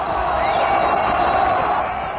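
A large crowd roars and cheers continuously, a dense wall of shrill screaming voices and applause sustained at steady loudness throughout, with no individual voice standing out.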